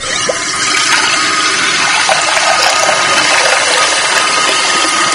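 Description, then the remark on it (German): Water runs steadily and loudly from start to finish, a dense, rushing hiss with no pauses and no voices. “Sie haben es vermutlich schon erkannt, um das Thema Wasser.”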